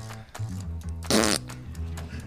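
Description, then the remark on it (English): Oklahoma State coach Mike Gundy, answering a beat writer's question about Twitter, blows a wet, buzzing raspberry that imitates a fart, a single loud burst about a third of a second long, rising from a low murmur of sound around it. “Genius can appear in all shapes and sizes, and this time it's wearing an 80s hairdo and making fart sounds.”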